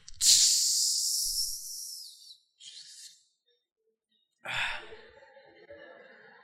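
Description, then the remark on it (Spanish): A voice imitates a Coca-Cola can being cracked open: a long, loud fizzing hiss, a shorter second hiss, then after a pause a breathy sigh-like exhale, without other sounds. “Qué rico es ver una Coca-Cola y la botella o la latita escurriéndole el agua, más cuando hace calor y cuando se oye el destapar de la lata.”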